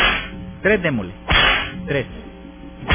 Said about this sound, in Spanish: Tres latigazos a la fiscalía, que dejen tranquilo al juez, al juez Jorge Guzmán Urquilla.